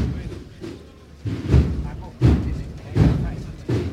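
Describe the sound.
A procession drum beats slowly and steadily, about one heavy, booming stroke every second, loud, with a faint murmur of voices underneath, as a religious procession returns into the Sagrado Corazón parish church and the band has stopped playing.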